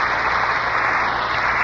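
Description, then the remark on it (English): Studio audience applause on the Lux Radio Theater broadcast, for Merle Oberon, George Brent, and Pat O'Brien: a steady, dense wash of clapping that holds evenly for the whole moment with no voices over it, slightly hissy and muffled like an old broadcast recording. “Your three strong reasons for that applause.”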